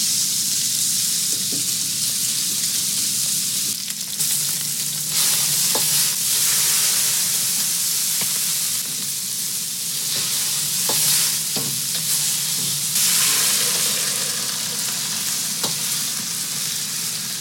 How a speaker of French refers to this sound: De la viande qui rissole, des légumes jetés dans une casserole et puis l'eau bouillante qui vient recouvrir tout ça.